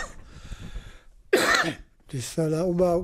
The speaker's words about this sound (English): Whenever I cough, my chest feels very dry. It feels as if there were dust in my lungs. I want to get rid of it, but it doesn't come out. There is so much pressure on my chest, it's difficult for me to breathe.